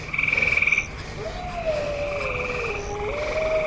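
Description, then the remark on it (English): A chorus of frogs croaking rapidly in pulsed trills, heard while passing by on a bike, a fast rhythmic burst up front followed by overlapping calls continuing, with no voices present. “So when we pass a bunch of frogs, cars go zooming right by, but we hear them.”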